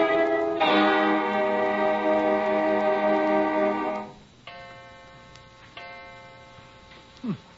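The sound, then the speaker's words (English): A clock strikes two o'clock with resonant, ringing chimes that hum and fade between blows, the later strikes softer and spaced a second or so apart. “Only 2 o'clock.”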